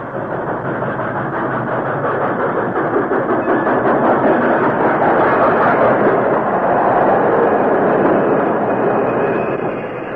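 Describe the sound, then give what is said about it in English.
A train pulls into a railroad station with a loud, steady rumble and clatter that holds for several seconds, then eases slightly at the very end as it comes to a stop. No voices. “Train stopped. The guard unlocked the big side door and slid it open.”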